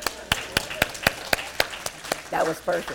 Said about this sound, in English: Let's give a hand clap for her.